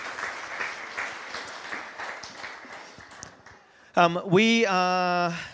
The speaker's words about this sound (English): Give them another round of applause as they grab a seat. Thanks so much, guys.